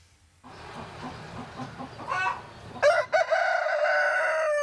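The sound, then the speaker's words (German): Chickens cluck and murmur in a busy flock, then a rooster lets out a loud, drawn-out crow that carries through to the end. “Ihre Hühner könnte sie stundenlang beobachten.”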